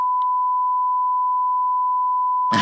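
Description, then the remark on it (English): A steady, loud censor bleep tone holds for over two seconds over a spoken street address, cutting off abruptly into a burst of noise at the end. “No, I'll beep that out.”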